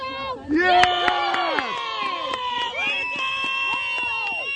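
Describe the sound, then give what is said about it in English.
Parents at a 9-year-old girls' soccer game on a chilly fall morning at Independence Park in Canton, Michigan, cheer and shout encouragement over steady crowd hubbub, with overlapping voices and sharp thuds or claps from the field throughout, lively. “Small groups of parents huddle under blankets, sipping coffee and shouting encouragement. The cheering is high-spirited, but no one seems to take the action too seriously.”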